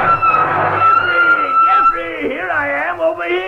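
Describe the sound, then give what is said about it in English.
A hot rod engine roars, then tires squeal in wavering, rising and falling screeches as the car, a 1930 model with a 1947 engine, skids to a stop. “This hot rod, Jeffrey? Hot rod? That's a 1930 model. Yes, but with a 1947 engine”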